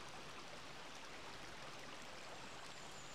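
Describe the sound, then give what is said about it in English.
A steady, unbroken rush of the River Dove flowing near Low Mill, soft and even throughout, with no voices or other sounds over it. “Making my way back towards Low Mill, alongside the banks of the River Dove once again.”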